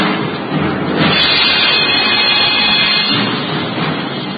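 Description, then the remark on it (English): A raging storm wind roars steadily at night around the castle of Rutherford, a loud, dense rushing noise that swells and surges slightly without letting up. No voices are heard. “The storm that raged that night around the castle of Rutherford, the castle of Cedric the Saxon, was no more tempestuous or violent than were the times.”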